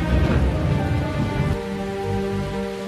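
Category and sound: nature, heavy rain with thunder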